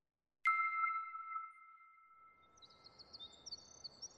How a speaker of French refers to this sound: L'oiseau que vous entendez là, c'est un troglodyte mignon. C'est un de mes oiseaux préférés. C'est une toute petite boule de plumes qui sautille souvent dans le jardin à la recherche de petits invertébrés.